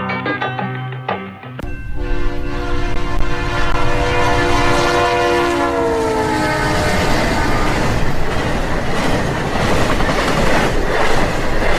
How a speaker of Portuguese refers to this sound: Longe em longe, uma locomotiva óleo diesel apita, desanimada, e vem furando as luzes na zona do cais.